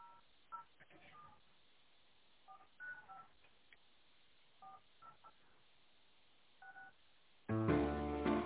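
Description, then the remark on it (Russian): A series of short touch-tone beeps as an internal extension number is dialed after the automated greeting of the Force group of companies, pressed in small irregular clusters over a quiet line, until a sudden loud, rich tonal sound cuts in at the end. “Пожалуйста, наберите внутренний номер абонента или дождитесь ответа секретаря.”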